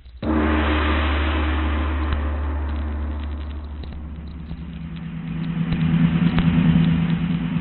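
A car engine starts up and runs steadily with a low rumbling drone, then builds slightly as the vehicle drives off, fairly loud, with no voices.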